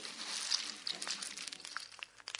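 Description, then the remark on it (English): Rice Krispies snapping, crackling and popping in a breakfast bowl: a steady scatter of tiny, sharp, high-pitched crackles and clicks in an irregular rhythm, fairly quiet, with no voices. “Hi Naked Scientist, could you please tell me what's happening when you hear the snap, crackle and pop with Rice Krispies?”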